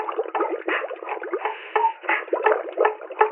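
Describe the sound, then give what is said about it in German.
Continuous, irregular bubbling of water made by a person, a dense stream of small pops and gurgles with no pauses, fairly thin-sounding. No voices are heard. “Ich muss, glaube ich, noch ein bisschen lauter blubbern.”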